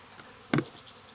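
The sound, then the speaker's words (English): A honeybee zips past in a short, loud buzzing burst, then fades back to a faint, steady background hum of honeybees around an open hive as a beekeeper puts the queen on them. No one speaks. “Put the queen on them so they can smell her.”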